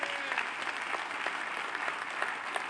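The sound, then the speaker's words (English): A church audience applauds steadily for its pastor, many hands clapping at once in a dense, even patter that holds at a moderate level throughout, with no voices standing out. “I mean, yeah, you can clap for that.”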